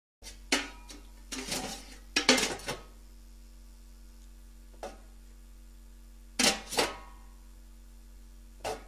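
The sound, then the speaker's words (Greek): A metal cooking pot is handled, clanking and scraping in short bursts, with a cluster of rattling knocks early on, a lone tap midway, and two more clatters near the end, moderately loud with no talking. “Κατσαρόλα.”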